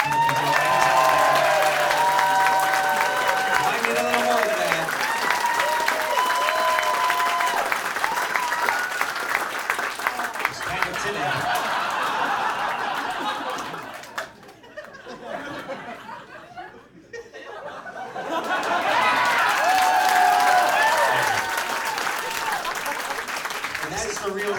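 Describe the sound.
Sustained audience applause at a live show, encouraging a performer onto the stage, with scattered cheers and laughter, loud and dense, dipping briefly quieter in the middle before swelling back up, with voices mixed in throughout.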